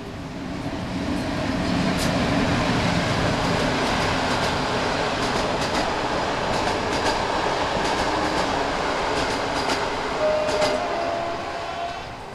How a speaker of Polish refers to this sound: O, jedzie pociąg pośpieszny.